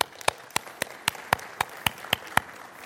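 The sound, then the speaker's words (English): A church audience applauds single moms during a sermon, in a steady, unified rhythm: about ten sharp, evenly spaced claps at a brisk tempo, clear and moderately loud, with no voices over them. “In fact, let's applaud you right now.”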